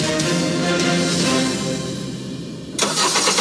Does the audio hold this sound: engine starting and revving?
yes